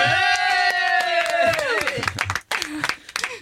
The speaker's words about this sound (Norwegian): Okay. En applaus for Eldre Garde.